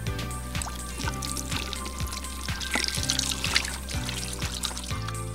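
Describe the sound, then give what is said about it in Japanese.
Steady running tap water splashing and pouring, with shifting gurgles as hands are rinsed under the stream to wet them before applying soap foam; a low background hum runs throughout, and no one speaks. “じゃあまず先に水で手を流したいと思います。”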